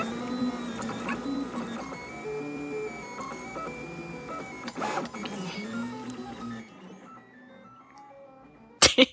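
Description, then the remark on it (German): Printer stepper motors whine and whistle in shifting tonal pitches, almost melodic, for several seconds, then fade to quiet before a short burst of clunking mechanical noise at the end. “Das sind übrigens, was man da hört, sind die Schrittmotoren, die machen diese lustigen Geräusche.”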